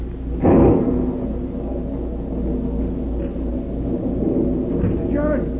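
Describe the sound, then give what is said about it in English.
A sudden loud crack of thunder from a lightning bolt striking a cliff beside a burial ground bursts out near the start, then fades into a low, steady rumble, with faint voices murmuring toward the end. “A real granddaddy of a lightning bolt hit the cliff just now right beside the burying ground.”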